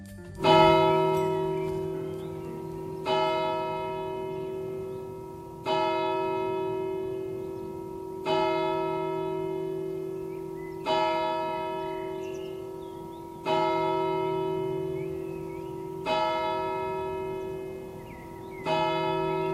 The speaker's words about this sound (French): Ne vous inquiétez pas, votre montre est à l'heure. Il n'est pas encore midi. C'est moi qui fais sonner ces cloches. Elles sont enregistrées sur mon ordinateur.